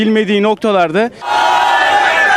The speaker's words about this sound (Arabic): التظاهرة المتضامنة مع غزة شهدت حضورا لافتا لآلاف الأتراك ومشاركون من جاليات عربية وإسلامية والذين عبروا عن غضبهم بهتافات داعمة لغزة ومقاومتها ومنددة بجرائم الإبادة التي يرتكبها جيش الاحتلال في غزة.